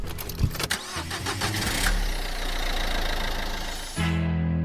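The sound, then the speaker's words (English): A car engine cranks with a rapid rattling starter, catches and roars up, then settles into a steady low idling hum, with no talking; the car is being driven home from a gig, in Tatura. “All right, you're listening to The Debrief with Dave O'Neill while I drive home from a gig with a comedian, and I've got Izzy Ali in the car, rising star.”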